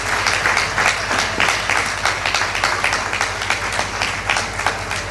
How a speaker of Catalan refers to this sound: Des d'aquí demano un fort aplaudiment i dono les gràcies a tota la comissió de festes de la Raval de Cristo.